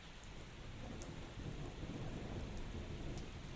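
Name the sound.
rain falling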